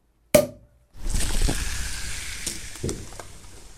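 A single sharp pop, a brief pause, then champagne poured for everyone to toast the new Neue Künstlervereinigung München, in a steady, bubbly fizzing hiss that runs on, broken by a few soft clinks.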